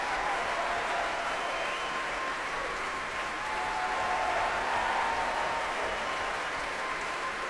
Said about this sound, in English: That's the principal horn player, David McClenahan, getting a rousing cheer here.